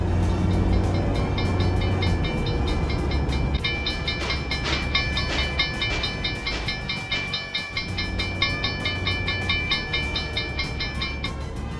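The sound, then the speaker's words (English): A train rumbles steadily past a railroad crossing while the crossing bell clangs in a fast, repeating rhythm, loud throughout, with wheels clattering over the tracks. “Stop in front of the railroad crossing signs and the light turns red.”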